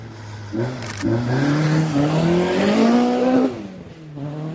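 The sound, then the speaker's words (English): A loud race car engine screams in on a track with steadily rising pitch, then drops away sharply as the car passes, leaving a fading whine and engine hum. No voices. “Okay, and so I got the next shot, the next car coming round.”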